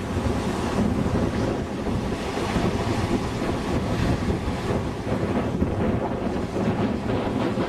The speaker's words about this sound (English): see how those waves are just beating against the rocks here.